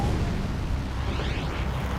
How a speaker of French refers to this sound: New York, le 26 octobre 1974, juste après minuit. Cinq explosions secouèrent Manhattan.